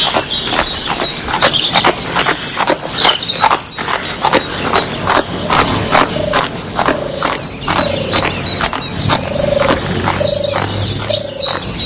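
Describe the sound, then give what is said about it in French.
Ridden horses gallop away, hooves pounding in a quick, steady rhythm, fairly loud throughout, with birds chirping faintly in the background and a recurring low creaking tone. “Et ils font partir le chevaux au galop.”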